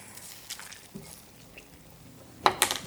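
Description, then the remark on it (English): Another half cup of stock poured into a pot on the stovetop: a mostly quiet stretch with a few faint clicks, then a short, louder burst of splashing liquid and light metallic clinks at the end. No one speaks. “Okay, more stock is going in. Another half a cup.”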